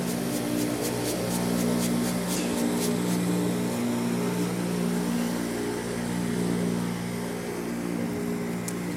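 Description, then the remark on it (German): A passing boat's engine drones steadily, a loud, low, throbbing hum that holds for the whole stretch with only slight swells as it passes. A few faint ticks sound early on. “Und da kommt ein Boot.”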